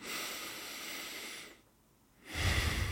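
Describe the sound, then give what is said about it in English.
Airy breathing through the nose during a guided breathing exercise: a long steady inhale, a brief pause, then a louder, rushing exhale. No one speaks. “Just your nose and then out through your nose.”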